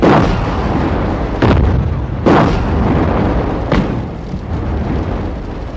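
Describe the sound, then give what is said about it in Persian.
Continuous rumbling bombardment with heavy, low booms, broken by several sharp explosive bursts at irregular intervals. Iraqi artillery and mortar shells crash onto the supply area over a dense, roaring background of fire, with no voices. “حاجی بونه تدارکاتو زیر آتیش گرفتن.”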